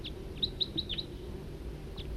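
A bird chirps in a quick run of four or five high, bright notes, then calls once more after a pause, over a steady low rumble with no talking.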